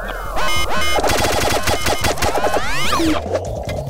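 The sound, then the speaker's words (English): Loud, busy chiptune video game boss battle music with rapid arpeggiated bleeps, a driving beat and a swooping pitch sweep near the end, played alone without any voices. “It's good boss music, I think. As good as you can get with chiptunes.”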